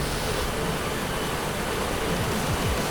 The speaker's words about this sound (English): I really like these jet streams. It's like, it kind of reminds me of a jacuzzi. Like a high-tech jacuzzi that can pull you around.